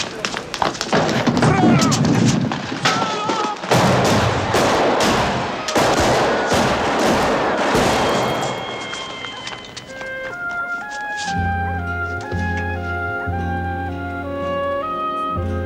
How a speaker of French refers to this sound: Les tireurs s'enfuient. On a tiré sur Don Corleone. Nous sommes le 12 avril 1971 sur le tournage du Parrain.